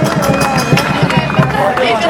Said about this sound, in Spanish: Así que, ante todo, un fuerte aplauso para todas nosotros. ¡Vamos!